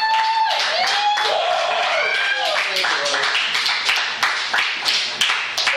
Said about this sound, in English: One round of applause for Mr. John Wick.